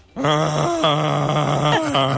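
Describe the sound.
A person imitates Chewbacca's Wookiee roar at a Star Wars film stand where visitors shout, their voice is analysed, and a Chewbacca-like roar wins a prize: a long, loud, growling moaning cry with a rough, wavering pitch, broken into three sustained bursts with short dips between them, and no other talking.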